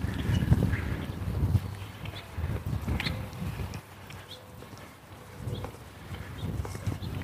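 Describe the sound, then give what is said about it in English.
Outdoors in the morning, a low, steady engine drone of lawn mowers hums as people mow lawns, while scattered birds chirp faintly above it. No one is talking. “We have birds chirping. There's people mowing lawns this morning because they don't want to wait till it's too late.”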